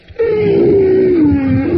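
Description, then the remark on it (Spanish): A voice imitates an elephant trumpeting: one loud, sustained, brassy blare with a slightly falling pitch, held for well over a second. “Y el elefante llegó con las cajeras y les hacía...”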